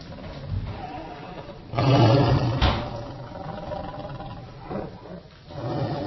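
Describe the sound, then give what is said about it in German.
A hungry person's stomach growls in a kitchen: a loud, rumbling growl swells up suddenly and roars for about a second, like a big cat, then fades into a low, continuous rumble that rises again briefly near the end. “Nee, mein Magen, ich hab Hunger.”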